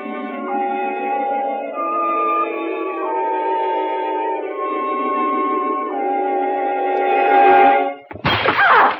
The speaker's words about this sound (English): It was a vase. I knocked it off the mantel.